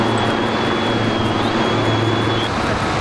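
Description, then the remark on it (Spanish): The presidential helicopter carrying resigning President De la Rúa takes off, bound for the presidential residence at Olivos, its engine roaring loudly and steadily with a low, rhythmic rotor thump running through a dense wash of noise. “Está despegando el helicóptero, se va De la Rúa, se cierra su gestión, poco más de 2 años.”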